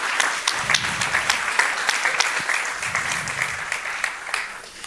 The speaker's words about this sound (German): Herzlichen Applaus